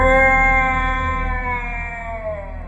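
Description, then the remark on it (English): A huge dragon with an iron hide and plated bronze scales opens its great mouth wide and lets out an ear-splitting roar that shakes the valley: one loud, sustained, strained cry rich in harmonics over a low rumbling buzz, holding steady before its pitch sags slightly at the end. “It opened its great mouth, wide, and let out an ear-splitting roar that shook the valley.”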